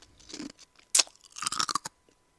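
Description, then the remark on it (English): Loud crunching of ice being bitten and chewed, a sharp crack followed by a burst of several brittle crunches, then quiet. “Okay, new bit of ice.”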